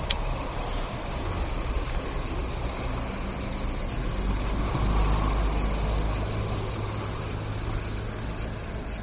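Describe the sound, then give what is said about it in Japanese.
A cicada drones loudly and steadily, its high buzzing song pulsing in a regular rhythm over a low background rumble, with no one speaking; in summer after the rainy season, the cicada, first at head height, has climbed to about 2.5 meters up. “さっき僕の目の前、頭の高さぐらいにいたセミが、もうさっきからどんどんどんどん寄り登ってね、もう2メートル半ぐらいのところに来ましたね。”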